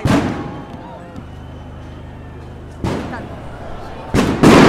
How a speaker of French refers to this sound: La place a disparu sous un nuage de lacrymos. Il y avait des explosions de tous les côtés.